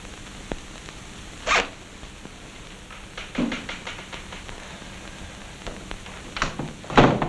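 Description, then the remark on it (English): A man zips up his briefcase: the zipper is pulled in several short, rasping bursts, with a longer zip around the middle and a final firm stroke at the end, with no talking. “He zips up his briefcase and goes home.”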